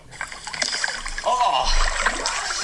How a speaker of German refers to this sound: Warum dieses plätschernde Geräusch? Wir sind tatsächlich, wann war das? Im Juli. Da war es aber arschkalt.